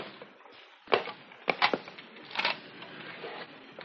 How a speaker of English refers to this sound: Hey, be quiet on those squeaky boards.